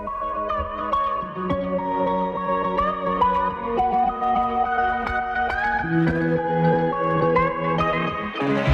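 A rock song plays continuously at a steady, loud level, with sustained chords and a heavy wash of echo and reverb effects, its melody shifting through several changes.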